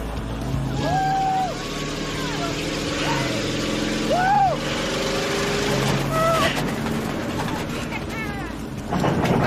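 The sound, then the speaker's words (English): A truck carrying youngsters speeds along tracks through a corn maze toward its center, its engine roaring steadily with a low rumble throughout and short, rising-and-falling high squeals or whoops breaking over the noise. “He speeds along the tracks through the corn to the center of the maze.”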